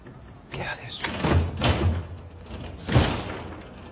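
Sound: front door being opened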